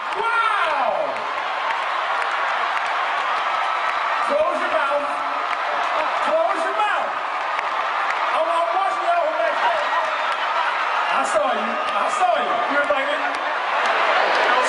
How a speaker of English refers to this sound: I just want to play a short clip of the performance, particularly the end after your chapter left the stage and the crowd went wild, something the MC of the event clearly took notice of.